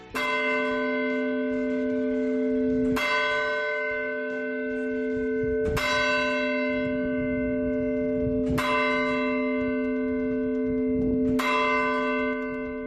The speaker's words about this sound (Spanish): Pues es el repique de las campanas del reloj del Ayuntamiento de Guadalajara, que marcan sonoramente las horas y que han enmudecido desde hace, vamos a decir, unos 50 minutos